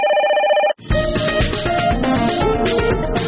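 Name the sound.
telephone bell ringing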